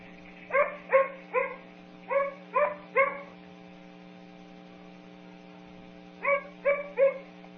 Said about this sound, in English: Okay, this next bark is tonal. So it's not harsh. Okay.